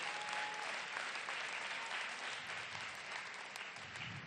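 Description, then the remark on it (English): An audience claps in praise of God, the Most High, in a steady, dense wash of applause that holds at an even loudness for several seconds, with no voices rising above it. “Let's clap unto the Most High.”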